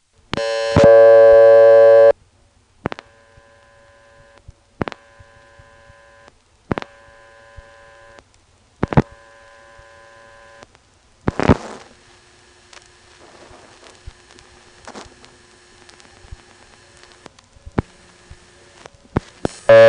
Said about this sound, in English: Here's the sound of dialing the number of my payphone, which of course will be busy.